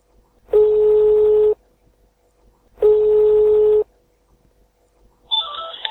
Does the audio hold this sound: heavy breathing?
no